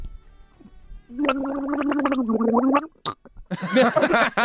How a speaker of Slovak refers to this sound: Si videl niekedy čkajúceho, kloktajúceho človeka? Nie, a ešte v rádiu si ho počul?